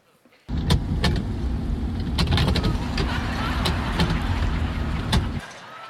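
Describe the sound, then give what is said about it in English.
Inside a car during a violent storm, windshield wipers run against a loud, steady roar of rain and engine rumble, with irregular clicks and thumps over about five seconds before stopping abruptly. “I saw what had happened as a result of me changing, as the handyman that I am, her windshield wipers the day before, because the day she texted me, it was storming violently.”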